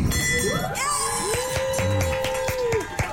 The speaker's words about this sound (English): what you're hearing there is the ring of a bell and joy.